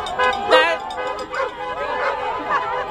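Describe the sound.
A dog barks and yips several times in quick, uneven bursts, moderately loud, with a murmur of voices in the background.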